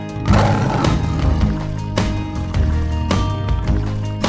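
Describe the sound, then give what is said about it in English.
A voice growls out a loud, sustained imitation of a lion's roar over steady background music during a sung nursery rhyme, the rough rumble swelling and fading across a few seconds. “If you see a lion, don't forget to roar.”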